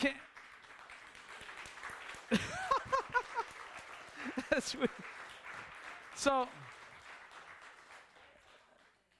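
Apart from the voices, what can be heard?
audience clapping hands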